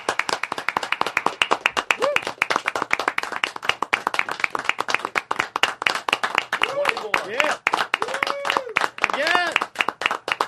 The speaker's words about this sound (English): We don't just, there's not, oh, we clap. You treat it, if you were at a show and someone performed, you performed, he scored it. Sure, you show it some fucking respect.